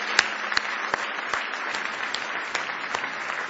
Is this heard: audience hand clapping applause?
yes